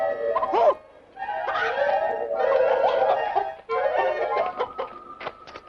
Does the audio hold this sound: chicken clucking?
yes